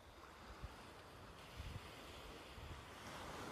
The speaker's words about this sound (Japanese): 目を閉じて波の音を感じながら深呼吸してください。Close your eyes and breathe deeply. Feel the sound of the waves.